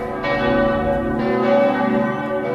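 The large bells of Saint-Étienne Cathedral in Auxerre, France ring continuously, their deep overlapping tones and long resonant hum filling the air with a steady, loud peal and no pauses between strokes.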